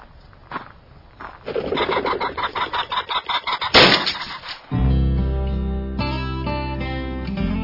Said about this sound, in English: The old camp house floor creaks a little, but don't worry. You're on solid ground.